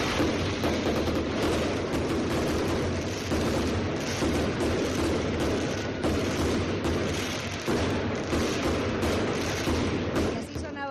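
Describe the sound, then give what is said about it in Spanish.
Fireworks and a traca firecracker string going off at the end of the San Lorenzo 2022 festivities, in a dense, continuous barrage of rapid loud bangs and crackles, relentless for the whole stretch, with a noisy crowd-like wash underneath. “Ayer el despido, la despedida con los fuegos artificiales y la traca fin de fiestas de San Lorenzo 2022.”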